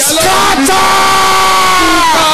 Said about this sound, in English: Can I hear you shouting out loud?